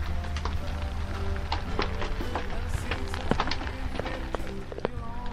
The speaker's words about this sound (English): And you can probably hear the rain falling on the tar paper roof of the cabin just now.